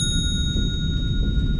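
Sustained, shimmering clock-bell tones ring steadily over a dense, rumbling low drone, with no clear strike, just lingering bright overtones hanging above the murky pulse.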